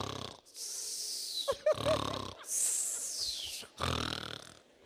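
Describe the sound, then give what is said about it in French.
Heavy, loud snoring in repeated rasping cycles, each harsh inhale followed by a breathy, whistling exhale, with short gaps between breaths and no talking. “Il y a les petits ronfleurs, mais il y a aussi les gros ronfleurs.”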